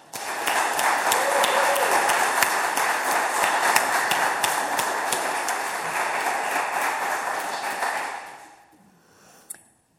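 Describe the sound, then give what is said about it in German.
An audience breaks into steady, dense applause as thanks, a crackling wash of many hands clapping that holds for about eight seconds before tapering off into quiet, with one last stray clap. “Und ich denke, wir sagen mit unserem Applaus mal ganz, ganz vielen Dank.”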